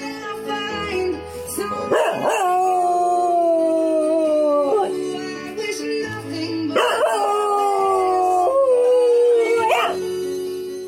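A dog howls along with a slow song, holding long wavering notes that swoop up and trail down in two drawn-out phrases while the music plays underneath.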